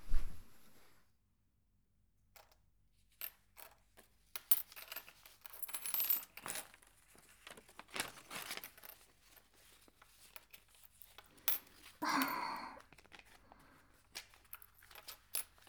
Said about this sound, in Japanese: もう、小銭は私が数えるから。ほら、店長はお札。